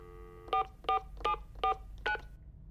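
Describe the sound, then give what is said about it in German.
A series of five short electronic touch-tone beeps as the telephone number of a police station, taken from the phone book, is dialed to report a missing bicycle; evenly spaced and clear, with no voices, over a faint background hum. “Und wo rufen wir dann wegen dem Fahrrad an? Die Nummer vom Polizeirevier müsste eigentlich im Telefonbuch stehen.”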